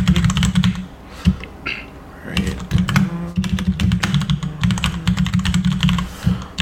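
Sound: computer keyboard typing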